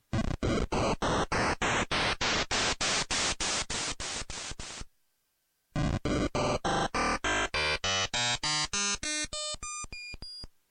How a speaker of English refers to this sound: So that first set was that white noise, and that second was that sort of metallic-y noise. And some of you might have already placed some of your favorite sound effects as you're hearing that whole sequence through both noise modes.